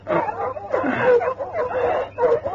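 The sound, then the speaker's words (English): Several dogs bark and yip excitedly in quick, overlapping bursts at one in the morning, fairly loud, with a faint steady hum underneath. “What the dickens is the matter with the dogs?”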